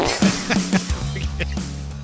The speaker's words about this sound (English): It gets you every time. Every time I forget that's how it starts. We're way too amused by fart sounds.